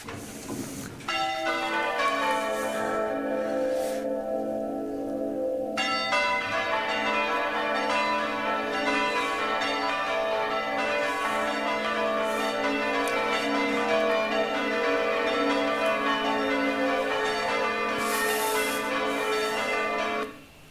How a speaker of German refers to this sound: Ja, also gar nicht schlecht und beeindruckendes Hobby. Wie soll ich sagen, sehr italienisch. Glocken werden musikalisch angewendet, Orchesterbereich.